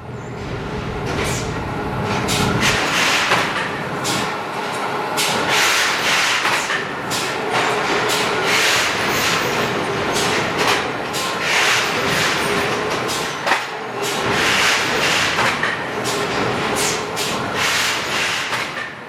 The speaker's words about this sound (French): Vous entendez ? Il y a quelque chose qui voyage, qui fait des allers-retours. À quoi cela vous fait-il penser ? Oui, c'est une navette. La navette d'un immense métier à tisser qui produit des toiles de près de 10 mètres de large.